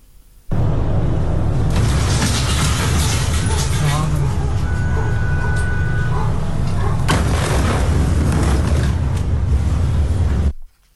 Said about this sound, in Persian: شامگاه سه‌شنبه انفجار عظیمی بیروت پایتخت لبنان را تکان داد.